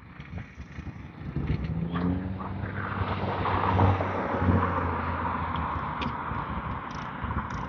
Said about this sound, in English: They're edging the sidewalk. It must be the city.